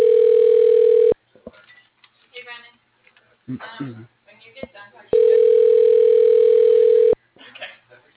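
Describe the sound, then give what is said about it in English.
A telephone ringing tone on a call: two loud, steady, mid-pitched rings, each lasting one to two seconds, separated by a pause filled with faint, muffled voices and line noise. “It's just ringing.”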